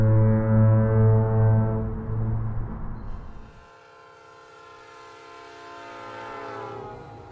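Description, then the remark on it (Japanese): A transcontinental passenger train bound for Chicago, in America: its horn blares in a loud, steady, low chord for several seconds, then gives way to the rumbling clatter of the moving train with a fainter, sustained horn tone over it. “私が直にアメリカ人と出会い、彼らを知り始めたのはシカゴ行きの大陸横断鉄道列車の中でした。”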